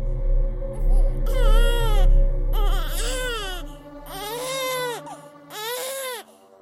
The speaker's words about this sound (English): I walked into the kitchen, intending to wash my feet, when I suddenly heard the sound of my infant baby girl crying.